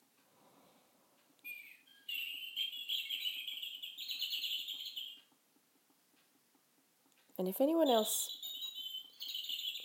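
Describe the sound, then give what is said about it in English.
A bird clock plays recorded birdsong as its 11 o'clock hourly chime: a bright, sustained chirping phrase, a short pause, then a second burst of warbling, swooping calls. A brief spoken word comes before the song. “if anyone else has a bird clock, they may know that that's going off for 11 o'clock, and it's actually midday now, but I haven't changed it yet since the clocks were changed.”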